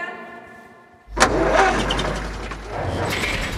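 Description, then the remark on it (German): A rented car's engine cranks and catches with a sharp burst, then settles into a steady rumble that swells slightly as it revs, in heavy fog. No one speaks. “Ja, so, ich habe mir jetzt hier auch ein Auto gemietet und fahre dem König einfach hinterher.”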